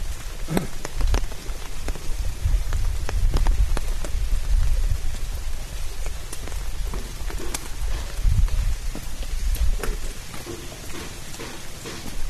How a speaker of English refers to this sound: The water, the rain. Good balance. So raining water associated with Vishnu.